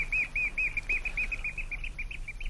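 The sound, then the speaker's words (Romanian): A nightingale sings a rapid, steady series of high chirping notes, about four per second, over a low background rumble. The notes stay fairly even in loudness throughout. “Plângi, pasăre, plângi. Cântecul tău e frumos și mă doare.”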